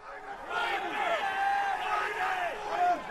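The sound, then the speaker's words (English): A dense din of many men shouting over one another, overlapping yells and calls rising and falling without pause, loud and chaotic: traders screaming numbers in the oil futures trading pit at the New York Mercantile Exchange. “That's the din at the pit at the New York Mercantile Exchange, where they trade oil futures, screaming numbers that determine all kinds of things in our reality.”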